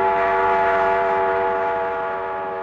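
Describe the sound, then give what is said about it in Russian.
A train brakes to a sudden stop after the brake handle is pulled, its wheels letting out a loud, sustained high-pitched metallic screech that holds steady and slowly fades over a few seconds, with no voices. “Григорий дернул ручку тормоза и упал без чувств.”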